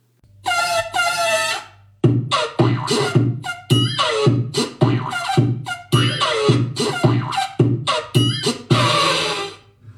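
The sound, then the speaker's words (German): The little cartoon elephant that has waddled across the TV screen for 46 years trumpets in a long series of brassy, honking blasts, the first two stretched out, then many short rising toots in an uneven, playful rhythm, loud throughout with no speech. “Sie kommen einzig mit ihren Geräuschen aus, die sie machen. Und die kennen sie doch ganz bestimmt auch, oder?”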